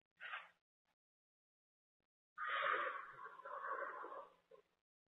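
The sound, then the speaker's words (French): A person takes a slow, deep breath: a quick, breathy intake of air, a brief pause, then a long, slow, deep exhale lasting a couple of seconds, with no talking. “Prenez maintenant une bonne respiration lente et profonde.”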